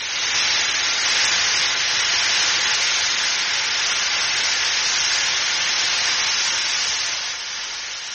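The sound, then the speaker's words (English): A steady, loud hiss of escaping steam from a geothermal vent roars continuously and evenly, easing slightly near the end, with no voices present. “Natural steam from the depths of the earth, hot springs, geysers, bubbling mud pools.”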